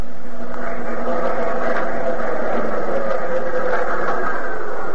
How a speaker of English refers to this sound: Here is a wide thoroughfare, bright with the red and blue and orange of neon signs, crowded with big green buses and prowling taxicabs, thunderous with the subway under the street.